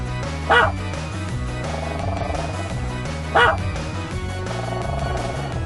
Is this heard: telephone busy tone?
no